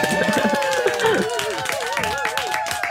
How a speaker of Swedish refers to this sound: En liten applåd!